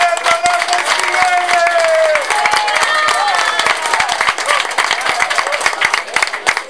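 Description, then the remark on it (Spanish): A crowd applauds steadily and loudly to welcome a speaker, dense clapping filling the whole stretch with a few cheers and whistles rising above it, no words clearly spoken. “Escuchémoslo y lo recibamos con un fuerte y acaloroso aplauso.”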